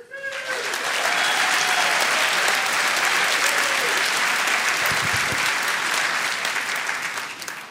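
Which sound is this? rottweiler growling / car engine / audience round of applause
audience round of applause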